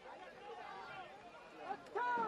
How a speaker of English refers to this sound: So, as you can hear, the crowd doesn't approve.